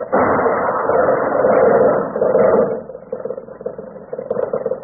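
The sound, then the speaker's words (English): A car engine rumbles steadily, then the sound abruptly drops and breaks into uneven knocks and rattles as the car jolts over a bump, with no voices. “Watch out for that bump up ahead.”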